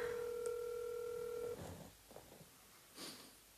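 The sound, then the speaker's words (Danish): A phone keypad tone, dialing the CNN tip line, sounds steadily for about a second and a half, broken by a brief click, then gives way to soft clicks and faint rustling. “Fedt, du har kodet CNN ind på din telefon.”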